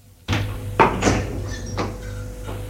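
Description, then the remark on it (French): A door opens with a sharp latch clunk as someone enters, followed by a few softer bumps and scrapes over a steady low hum, with no one speaking. “Un quart d'heure plus tard, on a frappé à la porte. Entrez.”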